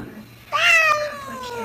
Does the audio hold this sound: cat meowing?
yes